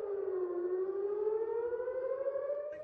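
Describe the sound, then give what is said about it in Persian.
A missile attack warning siren wails steadily in the settlements around the Gaza Strip early on a Thursday morning, its tone dipping slightly then slowly rising over three seconds, loud and sustained with a faint background rumble and no voices. “منبع‌های محلی بامداد پنجشنبه از به صدا درآمدن آژیر هشدار حمله موشکی در شهرک‌های صحنه‌نشین در اطراف نوار غزه خبر دادند.”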